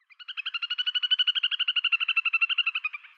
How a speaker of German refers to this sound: Also wenn ihr so an kleinen Gewässern mit Schilf und Co. und ihr hört dieses Bibbern, Respekt Martin, gut verpackt im Song, dann ist das in der Regel ein Zwergtaucher